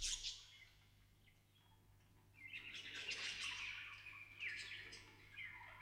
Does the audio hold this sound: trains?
no